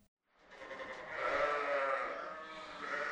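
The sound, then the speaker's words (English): Several female Rambouillet sheep bleat in a steady, overlapping chorus, calling at once with wavering, nasal cries that swell and hold, on the pastures of the University of Wyoming's Laramie Research and Extension Center, with no talking. “275 female Rambouillet sheep call the pastures at UW's Laramie Research and Extension Center home, and every year before giving birth, they're sheared, producing around 10 to 12 pounds of wool each.”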